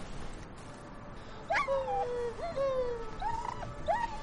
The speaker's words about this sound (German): Hört ihr auch das Winseln? Das sind bestimmt Hunde im Bus.